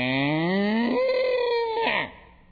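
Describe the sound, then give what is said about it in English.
A single long cow moo, loud, rising in pitch before trailing off after about two seconds. No talking, nothing else alongside it. “My old cow went.”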